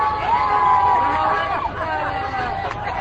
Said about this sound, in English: The festive mood continues, with motorists honking horns, playing music, and waving Cuban flags.